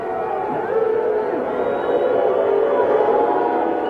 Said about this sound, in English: But here's what it sounded like just briefly on the field last night. I thought I heard booing, and this is what it sounded like on the air.